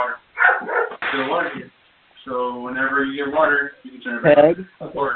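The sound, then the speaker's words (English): Dogs in a room bark and whine in a series of yelping bursts, heard during a phone call through a narrow, tinny phone line, with a longer drawn-out whimper in the middle and a brief pause before it. “Whoever has dogs in the room, mute your phone, please, or drop them all.”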